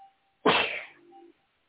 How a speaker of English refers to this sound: Gesundheit. Thank you. Bless you.